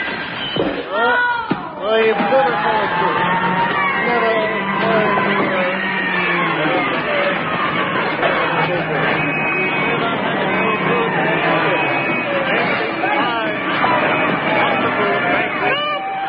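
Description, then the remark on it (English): Loud, dense crowd babble from a packed House of Commons chamber, many overlapping voices murmuring and calling out at once, holding steady throughout without any single clear speaker. “Meantime, back in the House of Commons.”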